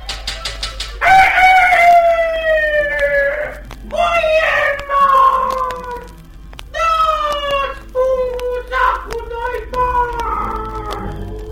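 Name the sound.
rooster crowing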